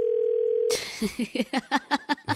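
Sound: phone ringing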